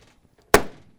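A single solid car door slams shut, a sharp heavy thunk that rings briefly and fades, with quiet stillness before and after.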